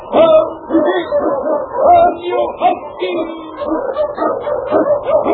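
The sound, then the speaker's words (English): Sled dogs bark and yip excitedly in a rapid, continuous string of loud barks with no pauses, an eager team ready to run; King, an Eskimo lead dog, blazes the trail through storm and snow for Sergeant Preston in Challenge of the Yukon. “The underdog king, swiftest and strongest of Eskimo lead dogs, blazes the trail through storm and snow for Sergeant Preston as he meets the challenge of the Yukon.”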